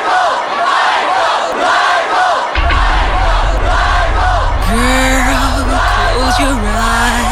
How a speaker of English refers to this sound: The crowds began to form quickly, and as you can see, they are quite deep. They began to form probably about half an hour ago.